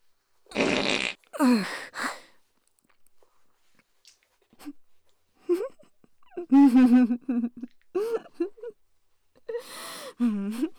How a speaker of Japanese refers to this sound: もうそんなに臭いおならが好きなんですか？